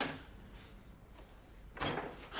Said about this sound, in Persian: فکر کردی کی هستی که در یخچالمونو باز میکنی؟